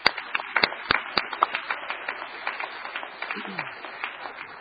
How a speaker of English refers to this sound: Let's give these families a round of applause this evening.